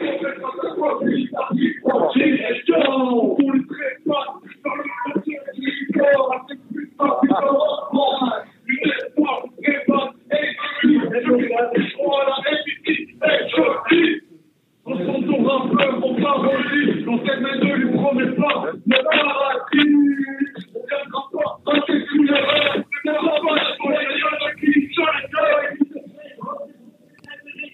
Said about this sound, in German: Ja, aber ich würde sagen, das war französisch oder belgischer Hip-Hop.